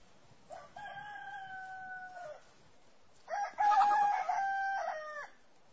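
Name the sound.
rooster crowing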